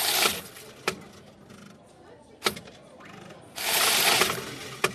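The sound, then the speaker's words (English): A coin-counting machine at Metro Bank, a new retail bank in Britain, runs with a broad mechanical whirring and rattling, swelling in bursts and dropping back, punctuated by a few sharp clicks and clunks. “With innovations like this coin-counting machine and 7 days a week opening, Hill hopes to shake up Britain's retail banking market, highly concentrated by American standards.”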